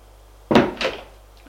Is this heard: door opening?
yes